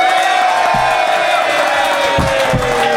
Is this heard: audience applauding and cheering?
yes